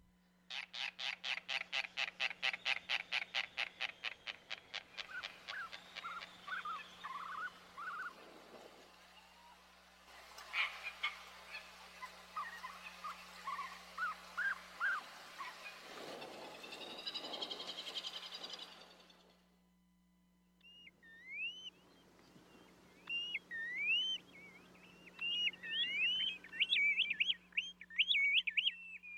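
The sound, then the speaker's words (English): Calls of the fairy tern, a Hawaiian seabird: a fast, rattling series of pulsed notes, then harsh buzzy chattering, and finally high, wavering squeaky whistles that rise and fall repeatedly, with no talking. “who has turned her attention from shrimp, sea slugs, and Spanish dancers to Hawaii seabirds. Take a listen.”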